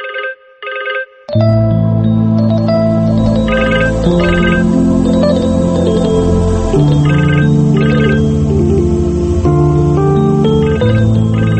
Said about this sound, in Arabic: ليش مترد؟ خلي يرن. خايف ترد؟